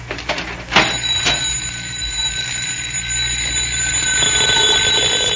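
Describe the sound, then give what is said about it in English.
A doorbell, rung by Mandrake the magician at the front door, rings out in a long, continuous metallic trill that starts just after a sharp click and keeps going steadily to the end, fairly loud, with no voices. “Look, he's going to ring again.”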